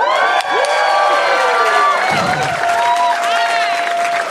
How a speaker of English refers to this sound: And since I am a sucker for crowd noise, as you can tell from the first minute of this broadcast, can we give another round of applause?